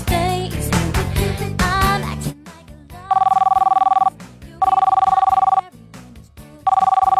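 After a short burst of music, a phone line rings out with a steady electronic ringback tone, sounding in three long, even pulses separated by pauses, clear and fairly loud.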